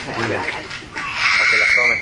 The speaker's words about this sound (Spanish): Y estos pájaros que se escuchan son los payas o las burracas, o no sé cómo lo llaman, ¿verdad? No, esos son cotorros. La que está en la parte de atrás son cotorritos.